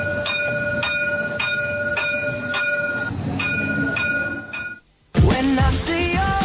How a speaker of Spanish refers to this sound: Nos vamos con el tranvía, claro que sí.